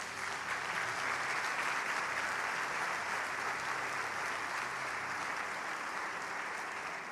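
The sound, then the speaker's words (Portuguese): A large crowd claps for Jesus steadily and continuously, a dense wash of applause that stays loud and even throughout, with faint voices mixed in underneath. “E tem mais um segredo aqui, pode aplaudir Jesus.”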